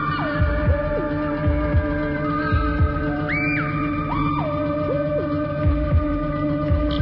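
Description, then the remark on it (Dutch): A steady, droning rumble of shunting trains heard from a railway station, layered tonal hums that shift pitch in steps, with dull heavy thumps recurring roughly every second. No voices. “Vanaf het station hoorde ik het vertrouwde dreunende geluid van rangerende treinen.”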